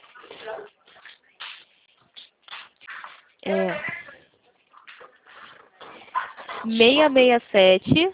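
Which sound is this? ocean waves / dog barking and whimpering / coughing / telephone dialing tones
dog barking and whimpering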